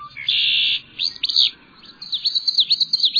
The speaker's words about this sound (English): Three different birds are singing across a marsh.